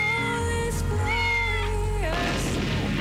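A cat lets out one long, loud meow, drawn out for about two seconds and sliding in pitch, followed by a short burst of rough noise.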